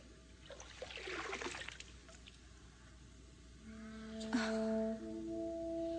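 Water trickles and dribbles through a spoon with holes, used to empty water, in a quick, splashy burst that thins out after a couple of seconds, followed by soft sustained tones with faint dripping underneath.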